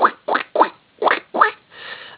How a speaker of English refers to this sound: Now, there are native squirrels here, but the ones you're more likely to see in this park are the exotic fox squirrels that come from the Midwest. And if you listen for them, they make sort of a quacking noise, kind of a quack, quack.